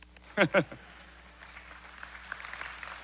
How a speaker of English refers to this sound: That's, yeah, good job. Golf clap.